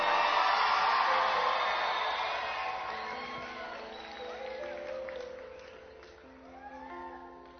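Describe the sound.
A crowd of teenagers shouts loudly together in a burst of yelling and cheering that gradually fades, leaving scattered individual voices calling out toward the end.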